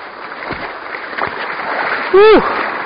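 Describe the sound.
Steady rushing water with a couple of distinct splashes as a person in shoes wades back across a river, followed near the end by a short voiced exclamation.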